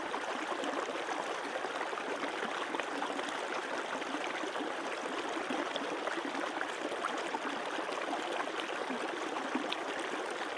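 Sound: river stream flowing water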